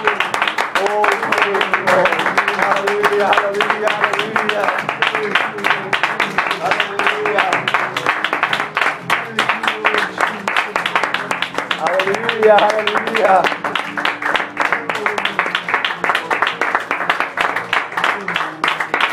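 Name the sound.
audience hand clapping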